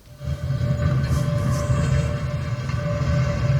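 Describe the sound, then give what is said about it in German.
A sound effect in a tabletop game of a heavy stone slab secret door being pushed aside, a steady, loud, low rumbling scrape that holds evenly for several seconds with a faint tonal hum running through it, no voices. “Nee, das war so eine Steinplatte, diese.”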